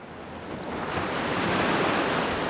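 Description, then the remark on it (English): Steady surf washes in at a beach, a broad rushing roar of breaking ocean waves that swells gradually louder over a couple of seconds, with a faint wind-like hiss and no voices. “Let's head to the beach and see if we can find her.”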